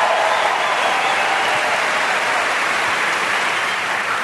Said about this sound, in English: Chris, I know it's weird for you to have a big crowd cheering for you, but don't worry, they're on your side. They want you to succeed.